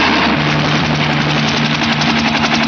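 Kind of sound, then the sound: vehicle, helicopter engine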